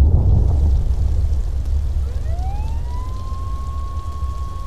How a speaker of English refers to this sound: The rain made everything sound different. The engine of my delivery van, the traffic as it rolled by on a film of fallen clouds, the occasional dull honk.